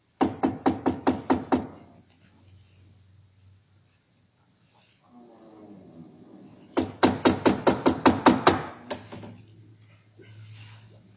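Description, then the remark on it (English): Two bursts of loud, rapid knocking on the door of a ship captain's cabin, about seven sharp raps, then a pause with faint low murmuring, followed by a longer run of eight or nine knocks. “Here, door. We knock?”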